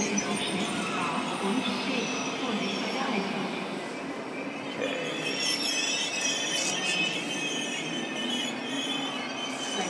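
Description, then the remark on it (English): A long train rolls steadily along the tracks, a continuous loud rumble with high metallic wheel squeal and faint murmuring voices underneath. “I think we'll just get on one and see what happens. Long train.”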